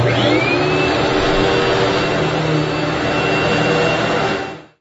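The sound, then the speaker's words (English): A vacuum cleaner runs loud, a steady roaring whine with a faint rising pitch, droning without a break before cutting off abruptly at the end. “Vacuum.”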